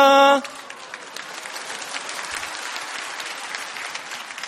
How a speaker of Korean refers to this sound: 야, 박수 치니까 이상합니다.